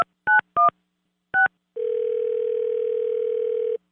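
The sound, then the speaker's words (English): Three short touch-tone beeps, each a brief two-pitched chirp, are dialed to call a man about a used car he is selling, with a pause before the last, followed by a long, steady, mid-pitched telephone tone that holds for about two seconds. No one speaks. “friends call a man to ask about a used car he's selling.”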